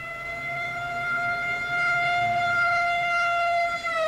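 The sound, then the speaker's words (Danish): An ambulance siren sounds loudly and continuously for several seconds as an ambulance arrives at a hospital in the evening bringing a woman, a steady sustained wail whose pitch drifts slightly downward toward the end, with no voices present. “Den sidste begivenhed den aften var, da ambulancen kom med en kvinde”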